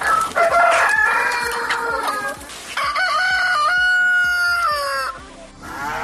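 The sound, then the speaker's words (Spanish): A rooster crows loudly in one long, drawn-out cock-a-doodle-doo with a rising, wavering tone, preceded by agitated clucking and squawks from hens in a farmyard. “Una ley para no entrar en conflicto con los urbanitas que van a los pueblos y se quejan del canto del gallo, el mugido de la vaca o el olor de los establos, de las cuadras.”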